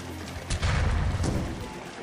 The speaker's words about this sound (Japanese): 大砲だ、砲兵隊放て。